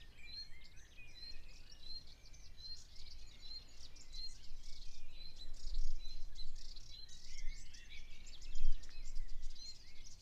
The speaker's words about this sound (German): Den Vögeln wieder zuhören.